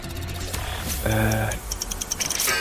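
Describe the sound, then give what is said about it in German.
Quick, light keyboard clicks tapping in an uneven rhythm as a quiz referee types while staring at her screen, with a brief humming tone in the middle before the tapping picks up again. “guckt ganz angestrengt auf ihren Bildschirm und sie tippt noch und sie macht noch irgendwas.”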